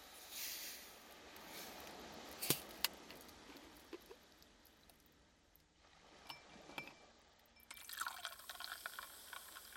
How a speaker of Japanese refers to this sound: 適量を入れましたら、こちらに炭酸水を注いでいきます。